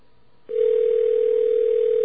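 A steady electronic telephone tone starts after a brief moment of quiet and holds unbroken at an even, fairly loud level, a phone call ringing out toward voicemail, with no one speaking.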